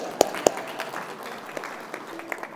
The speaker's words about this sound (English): What about a clap